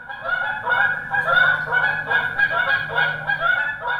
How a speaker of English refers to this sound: While Canada geese are the poster children of migration in this area due to their noisy honking and artistic flight patterns that catch the eye and ear of just about anyone who drives anywhere, walks to the mailbox, or has a window,